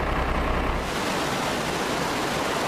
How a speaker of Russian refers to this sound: Это город Бонн в земле Северный Рейн-Вестфалия. Здесь в центре города вышла из берегов река Рейн. Некоторые улицы напоминают бурные горные потоки, затоплены подвалы домов.